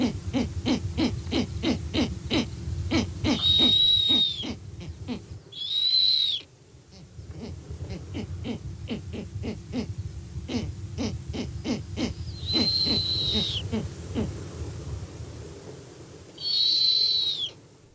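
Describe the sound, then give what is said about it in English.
An owl in southern Wisconsin hoots in a series of calls, each answered by a brief higher cry, set against a steady rhythmic pulsing in the background. No one speaks. “What for? Said the driver. The owl, we said.”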